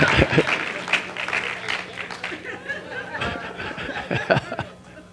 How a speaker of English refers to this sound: Come on, come on, we're getting better clap than that. Some of y'all scared to clap?